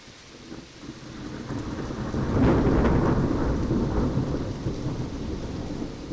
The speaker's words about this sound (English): raining a lot worse now, as you can hear. And the wind's up. This is going to be loud.